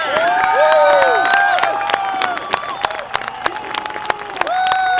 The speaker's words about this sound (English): Well, the crowd went wild, of course, and well, they should have. And not just the crowd down at JPL, where I was here in Northern California. People just went nuts.